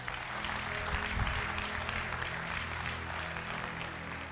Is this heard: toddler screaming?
no